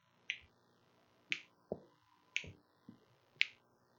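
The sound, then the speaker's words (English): Finger clicking, about six sharp snaps in an uneven rhythm over a few seconds, some bright and crisp, others duller and lower, with no voices. “Listen, I'm clicking my fingers.”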